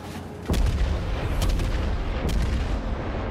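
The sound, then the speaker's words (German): A heavy cannon blast booms at about half a second, followed by two more gunfire thumps over a continuous low rumble, naval artillery firing in a video game battle involving the Japanese battleship Kongo. “Das ist aber ein beschissener Schuss.”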